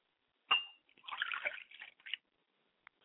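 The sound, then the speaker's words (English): A liquid libation is poured out toward the east: a sudden splash, then about a second of uneven spattering and trickling onto a surface, ending with a single faint drip. “I pour libations to the east and I say, Ashe.”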